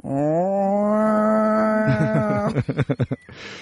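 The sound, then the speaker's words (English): A man's voice imitates the growl of a cat named Chairman Meow at the vet: a long, steady, low moaning yowl held for over two seconds, breaking into a stuttering series of choppy pulses before trailing off. “And Chairman Meow just lets out with the most god-awful, like, cat growling that goes...”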